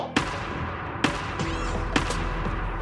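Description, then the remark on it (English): Three sharp, resonant whacks against a tree across the way in the woods by a lake, evenly spaced about a second apart, ringing out over a steady background hiss with no one speaking. “We start hearing some banging on a tree across the way.”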